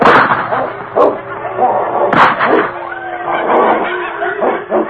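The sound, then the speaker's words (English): A dog named King and wolves snarl and growl in a frantic fight in knee-deep snow, with loud sharp bursts of barking and yelps breaking through continuous rough growling. “You can't tell dog from wolf.”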